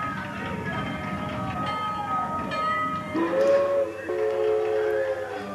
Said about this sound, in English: The train had been running for years and suddenly it was all going to end. So quite a lot of people did turn out. Cars came from everywhere. There's the old train.